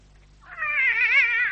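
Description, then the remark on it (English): A cat named Clara lets out one long, wavering yowl that swells in loudness and keeps going, a caterwauling meow with no talking over it. “Clara, sirs, is a lawless cat, hence her hatred of the detective.”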